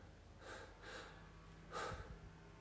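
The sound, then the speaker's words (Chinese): Three sharp, breathy exhalations, the first two in quick succession and a heavier one after a short pause, like someone panting for air with no talking, recorded for a voice-over. “也是前面加多一点喘气吧”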